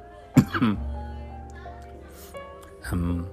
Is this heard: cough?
yes